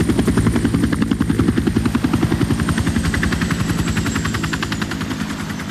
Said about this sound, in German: Der Helikopter landete.